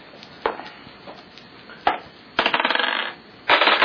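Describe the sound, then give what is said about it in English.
Dice clatter across a tabletop in two rattling rolls as a player rolls twice in a tabletop role-playing game, preceded by a couple of sharp, isolated clacks; fairly loud, with no voices. “I'll roll this twice.”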